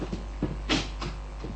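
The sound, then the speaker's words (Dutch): Whittaker's cupboard door aboard a vessel is pulled open, a short woody rattle and clunk preceded by a couple of soft knocks, fairly quiet with no one speaking. “Laten we eens gaan kijken naar de kast van Whittaker.”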